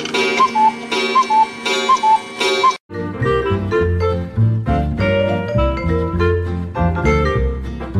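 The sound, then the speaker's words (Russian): An alarm clock from the century before last ticks in a steady, even rhythm with bright metallic overtones for a few seconds, then a sudden break gives way to a fuller, busier run of musical tones. “Вот интересная мысль пришла, что мы ломаем голову над машиной времени, а ведь будильник шагнул к нам из позапрошлого столетия, и мы его тоже передадим своим детям и внукам в следующий век.”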